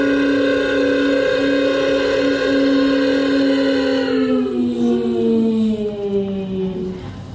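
A Shahed-136 kamikaze drone flies by, its engine giving a loud, steady, moped-like buzz with rich harmonics; the pitch holds level, then slides gradually downward over the final seconds.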